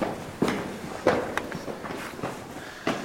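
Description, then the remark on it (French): Footsteps climbing a short series of stairs on the way back up: about half a dozen scuffing, uneven steps, some heavier than others, with no one talking. “On attaque la remontée. Petite série d'escaliers.”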